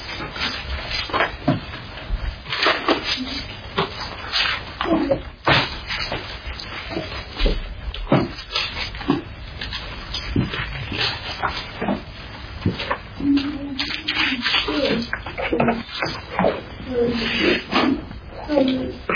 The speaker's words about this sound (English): Hold on, there's still pages turning.